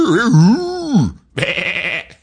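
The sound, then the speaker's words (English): A person imitates a sheep, letting out two wavering, nasal bleats, the first longer and sliding in pitch, the second higher and buzzier after a brief pause. “You do a good sheep.”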